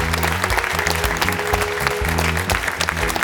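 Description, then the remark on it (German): An audience at half capacity applauds continuously, a dense crackle of many hands clapping at a steady loudness, with a low droning tone running underneath throughout. “Wir haben auch endlich wieder Publikum.”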